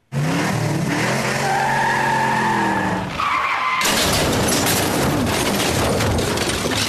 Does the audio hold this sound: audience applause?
no